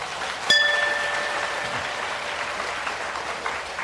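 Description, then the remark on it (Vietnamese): A crowd claps in a dense, steady burst of applause that starts sharply with a bright ringing note and keeps going at an even, loud level without any talking. “Và nếu các bạn thấy rằng là lời đề nghị của thầy đó là đáng để thực hiện và có thể thực hiện được thì hãy cho một tràng vỗ tay thật lớn.”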